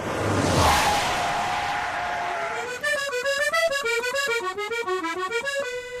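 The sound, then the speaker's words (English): An old car drives off with a loud rushing roar, then its engine whines upward in pitch and drops back at each gear change, repeating several times, steady. “Well, I'll tell you what, that was a smashing journey. Good gear shift on them b***h old cars.”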